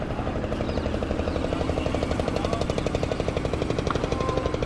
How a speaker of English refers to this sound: This boat going by, out on the Ganges.